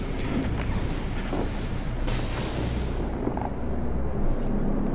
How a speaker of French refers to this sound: Vous avez entendu ? Oui. C'est le vent, je crois.